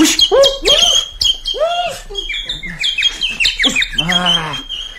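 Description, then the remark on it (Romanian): A bird chirps and squawks in quick, busy bursts, with high tweets mixed among louder, throaty calls, fairly loud over a faint steady whine in the background. “Păzește-mi, rogu-te, stocul, că eu alerg după pasăre să-mi iau spicul înapoi.”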